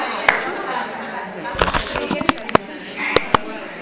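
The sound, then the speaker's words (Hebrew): Papers rustle and slap as sheets are passed around a room, with a cluster of sharp crinkles in the middle and a few crisp snaps near the end over a steady background murmur. “תעבירו דפים לצד ההוא.”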